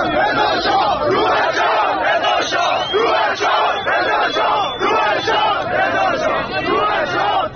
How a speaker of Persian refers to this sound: اشاره میکنیم همچنین تصاویر راهپیمایی امشب از تظاهر کنندگان در قم انتشار یافته که جمعیت شعار میدهند، نقل قول میکنم، جمهوری اسلامی، نمیخوایم، نمیخوایم.